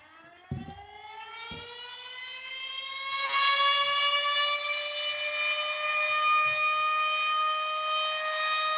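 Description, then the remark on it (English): A siren sound effect used as the 'fruit bat alert' winds up from a low pitch and settles into a steady, loud, rich tone that holds for several seconds. A couple of low thumps sound at the start. “That's the fruit bat alert.”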